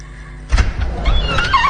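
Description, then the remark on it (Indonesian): The door of the room next door opens with a sudden low thump followed by a brief scraping, sliding rasp, fairly loud, with no voices. “Kali ini terdengar suara pintu dibuka.”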